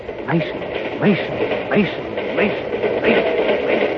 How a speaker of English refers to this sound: Yes, the drumming of the wheels grinds that name into the old man's ears like a hollow chant as the train rattles on.